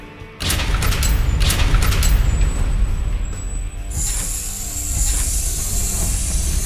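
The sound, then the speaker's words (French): Heavy hydraulics in the west part of the sector open a vault, kicking in with a loud, low mechanical rumble and a few sharp clanks, a thin whine, then a steady bright hiss that keeps on until the end. “Le lourd sifflement des hydrauliques de la partie ouest du secteur ouvre les autres bruits, et le contrôleur affiche « Coffre ouvert ».”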